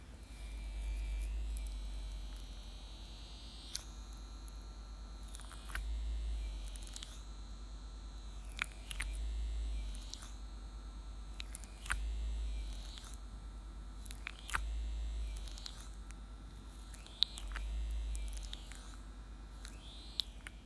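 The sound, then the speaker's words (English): A vibrator, recorded with a phone held next to it, hums with a low, steady electric buzz that swells louder and fades back in a regular pulse every few seconds, quieter when inside, with scattered faint clicks and rustles and no talking. “I'll put my phone next to it so you can hear it. The vibration gets quieter.”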